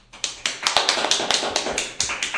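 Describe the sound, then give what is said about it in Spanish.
Brief applause from a small group for passing a quiz, a quick run of sharp, bright claps, about a dozen, overlapping slightly at a steady lively pace, fairly loud with no voices. “Un aplauso.”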